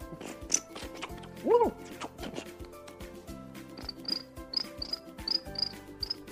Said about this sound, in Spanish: Los grillos, por ejemplo, se ponían a preparar sus violines.